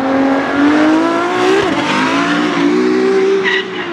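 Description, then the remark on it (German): Formula 1 race cars at the Monaco Grand Prix rev loudly in a continuous high-pitched engine whine, the pitch rising, dipping briefly, then climbing again, with a short tire squeal near the end. No one speaks. “Für das berühmte Formel-1-Rennen auf jeden Fall, den großen Preis von Monaco.”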